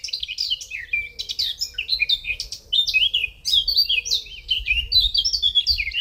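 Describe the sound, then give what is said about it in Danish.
A blackcap sings a rapid, continuous warble of rich fluty notes and quick chirps, fairly loud, over a low rumble of background noise. “Og det er nemlig en munk.”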